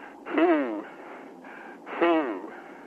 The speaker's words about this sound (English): Are you doing some breathing there